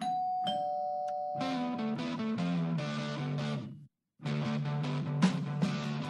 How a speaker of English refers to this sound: So you have a doorbell, right? You go ding dong and you answer the door. You're wondering who's at the door. This doorbell is going to change your life. Take a listen.